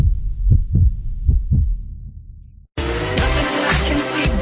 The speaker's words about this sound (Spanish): Ya se escucha su latido.